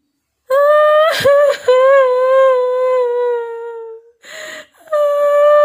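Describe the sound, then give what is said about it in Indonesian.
A woman cries mournfully in long, wavering wails, her voice sliding slowly downward, broken by sharp sobbing breaths and a brief ragged gasp before the keening resumes, loud. “Suara desahan itu kini berubah menjadi suara tangisan seorang perempuan yang memilukan dan menyayat hati.”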